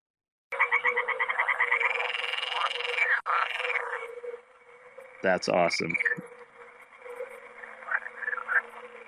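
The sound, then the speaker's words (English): A voice imitates a croaking toad with a long, steady, buzzing trill lasting several seconds, loud, before a person briefly speaks and the croaking sound trails off. “Do you actually speak English or just speak toad?”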